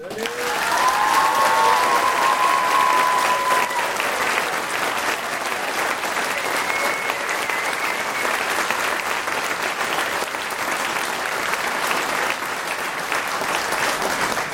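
An audience claps steadily in support of a participant for about fourteen seconds, a dense, even wash of many hands with a brief high whistle or cheer early on, loud throughout without fading.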